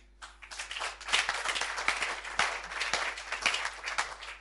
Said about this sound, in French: On peut applaudir.